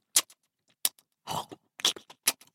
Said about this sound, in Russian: И вдруг гномычу показалось, что за стеной кто-то чавкает.